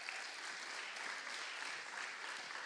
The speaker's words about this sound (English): Do come up. Give this lady a round of applause.